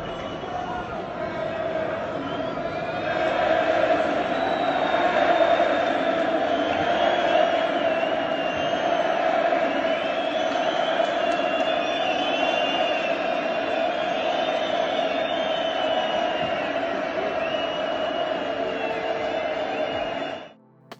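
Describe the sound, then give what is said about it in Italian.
A limited crowd at the Camp Nou reacts to Leo Messi at minute 10, some cheering and some whistling: a steady roar for about twenty seconds, a dense wash of cheering mixed with shrill whistles and some jeering, then cut off abruptly at the end. “Ma parlavamo di Leo Messi, mi sembra interessante far sentire come sia stata la reazione del Camp Nou al minuto 10. Qualcuno l'ha omaggiato, qualcuno l'ha anche fischiato.”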